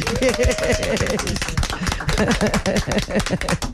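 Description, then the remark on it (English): Audience applause, a dense, steady wash of many hands clapping at full volume for several seconds, with voices and cheers mixed into the crowd noise. “I think we deserve a big round of applause.”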